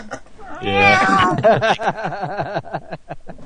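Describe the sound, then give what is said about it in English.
A cat meows, one long wavering cry followed by a run of shorter, choppy vocal sounds, fairly loud throughout. “What's that noise? Oh my god, it's cat. It's a cat.”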